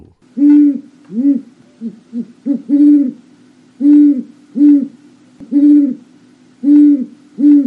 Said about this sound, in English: thank you, great horned owl, tiger of the night sky.